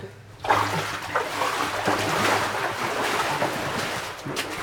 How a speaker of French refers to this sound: On va faire une séquence avec l'eau en avançant vite. C'est un petit jeu, c'est de courir après ta propre vague.